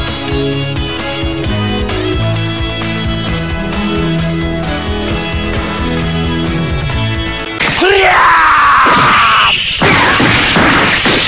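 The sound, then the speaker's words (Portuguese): Upbeat theme music from the Brazilian opening of the anime A Gota Mágica plays, then cuts to two girls screaming loudly and shrilly together over a noisy, crashing backdrop for the last few seconds. “Era só isso, só as duas gritando.”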